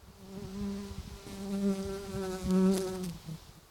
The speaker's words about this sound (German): Ja, das war nämlich mein Problem gewesen, wenn man mit der Nase da hergeht, dann schwirren da Bienen und Zeug und Sachen um den Kopf herum. Ich habe ja das nicht so gern eigentlich. Da ist es gerade eins.